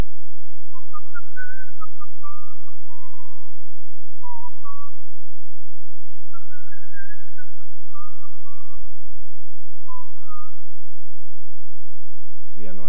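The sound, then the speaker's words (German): A man whistles a clear, tuneful song melody of rising and falling phrases for several seconds, solo, with a low steady hum in the background. “Manchmal pfiff er dann, als wenn er sich ein bisschen zu beruhigen pflegte, folgendes Lied.”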